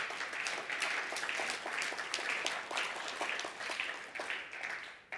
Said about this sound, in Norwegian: Ja, det kan dere godt gi en applaus for. Han lever.